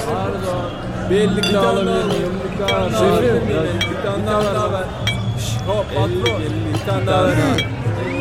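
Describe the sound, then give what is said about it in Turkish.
Glasses clink together several times in a toast celebrating a Galatasaray championship, sharp bright chimes scattered over a steady murmur of many people talking and laughing. “Özkan da herkes gibi bu zafere kadeh kaldırıyordu.”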